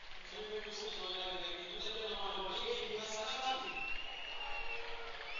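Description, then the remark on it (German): A stadium crowd at a WSV versus Bochum football match whistles at Bekim Castrati as he comes on as a substitute for Milko Trisic, with many sustained, overlapping whistles rising and falling over a steady roar of crowd noise for the whole stretch. “Ja, da kommt der ein oder andere Pfiff.”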